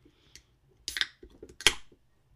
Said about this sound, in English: This is raspberry citrus. Maybe we'll start with that one. Okay. I'm going to crack it open, give it a pour.